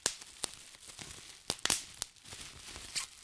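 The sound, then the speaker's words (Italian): Bubble wrap packing plastic crackles and pops in an irregular series of sharp, bright snaps, about half a dozen standing out loudly over a continuous crinkly plastic rustle, with no voices. “La plastica per imballare le cose, quella che scoppietta?”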